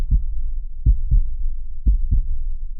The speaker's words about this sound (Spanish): Más o menos el corazón late a una media de 70-80 latidos por minuto